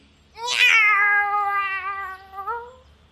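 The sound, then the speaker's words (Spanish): A single drawn-out meow from a female cat lying beside a path, loud, starting with a sharp rise then holding a steady, whiny tone for about two seconds before trailing off. “No habían andado mucho cuando se encontraron con una gata que estaba tumbada al lado del camino con cara avinagrada.”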